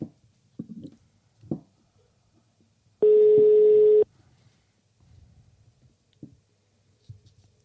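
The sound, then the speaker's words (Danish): A single steady electronic ringback tone of an unanswered phone call sounds for about a second, loud, surrounded by faint scattered clicks and handling noises with no one speaking. “Altså, han har også stoppet med at tage den nu, når vi ringer.”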